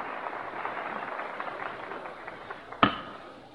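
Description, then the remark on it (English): Dense, steady applause from a large crowd in the House of Representatives on the opening day of the second session of the 74th Congress, greeting the Speaker as he takes his place at the Speaker's desk; a continuous crackle of clapping at even loudness, broken near the end by one sharp rap before it thins out. “You hear the applause which greets him as he takes his place at the Speaker's desk.”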